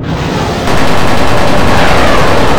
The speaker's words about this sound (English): The fighters open fire, but the Phoenix's armor deflects it all.